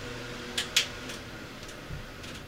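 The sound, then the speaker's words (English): An electric fan, kept on in the background during a show, runs steadily, a constant low whir with a faint hum and soft airy hiss. A few brief clicks and taps stand out over it. No one speaks. “trying to sabotage the show by keeping the fan on in the background.”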